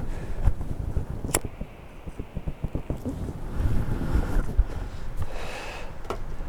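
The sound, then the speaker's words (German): Gusty wind buffets the microphone outdoors in Villach, beside a street with bare trees in early spring, with low rumbling bursts and rustling, plus a few sharp clicks and knocks; no one speaks. “Um mich herum bewegt sich alles eben wegen dem Wind.”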